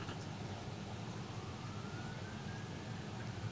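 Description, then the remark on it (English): A faint emergency siren wails, its tone gliding upward over a steady bed of low traffic rumble and street noise, with no voices present. “Siren.”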